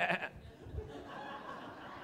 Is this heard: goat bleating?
yes